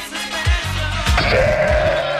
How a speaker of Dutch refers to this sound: Nou, horen de schapen al komen.